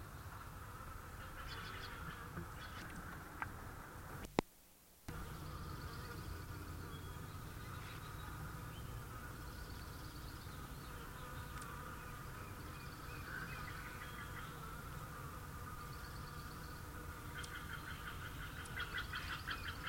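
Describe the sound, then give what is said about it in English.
A steady, humming wing buzz from a male Allen's hummingbird (Selasphorus sasin) in flight at the University of California Botanical Garden, with a low droning tone that continues for the whole clip apart from a brief dropout early on. No one speaks. “Flight sound, Cilasphorus. Male Allen Onicotiana tomentosa, number one.”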